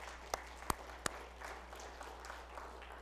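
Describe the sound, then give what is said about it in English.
An audience gives a hand clap offering in support of a mission in the Philippines that baptized over 3,000 people this year: three sharp hand claps ring out in the first second, followed by a soft, steady patter of scattered clapping. The applause stays fairly quiet, with no talking. “Give them a hand clap offering, will you?”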